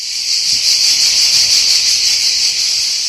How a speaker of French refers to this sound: Il s'est installé en Midi-Pyrénées Nord car il ne supporte pas les cigales.